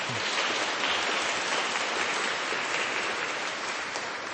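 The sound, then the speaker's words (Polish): Steady, dense audience applause at the sanctuary of the Most Holy Mother in Krasnobród, for members of a children's rosary circle, fills the whole stretch, a broad wash of many hands clapping at an even loudness with no voices rising above it. “Brawa dla was!”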